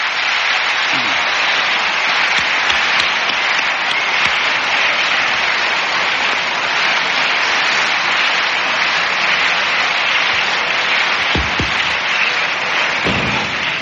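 An audience applauds steadily to bring out musicians who will come out and play guitar: a dense, even wash of many hands clapping at constant loudness, with a few faint low thumps and murmurs underneath.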